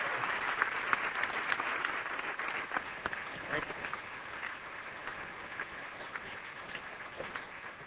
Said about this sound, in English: Can I ask you just a moment to broaden your applause and thank all four members of the panel for a terrific morning.